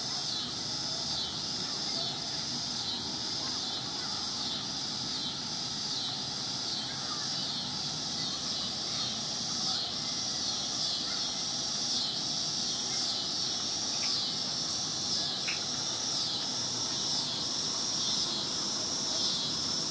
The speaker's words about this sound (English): it's a big old bug called the cicada